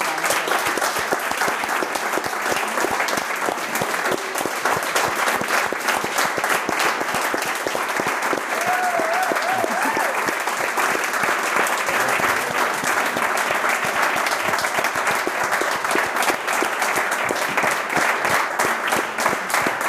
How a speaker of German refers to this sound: Ich dachte ganz kurz, wir sitzen morgen noch hier und klatschen einfach weiter.